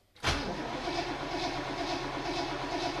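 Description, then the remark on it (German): An old car engine cranks and catches after a brief silence, then settles into a steady, rhythmic idle with a faint periodic tick, fairly loud, with no voices. “Damit es die nicht gibt, klar, muss man immer wieder mal den Motor einschalten.”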